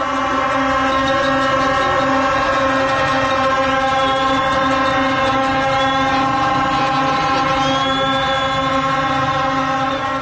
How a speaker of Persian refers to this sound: همه مشغول بوق زدن و شعار دادن. سکوت کرد و گفت گوش کن، و من فقط صدای بوق شنیدم.